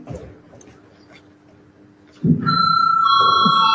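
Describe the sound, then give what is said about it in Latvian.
After quiet murmuring voices, the Saeima voting bell starts abruptly before a vote on a bill in its first reading and rings loudly as a steady, sustained high electronic tone that carries on to the end. “Paldies, lūdzu zvanu.”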